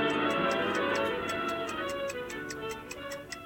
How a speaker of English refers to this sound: The shop is a labyrinth of timepieces. Every surface is covered in clocks, grandfather clocks, pocket watches, wall clocks, all ticking at different tempos.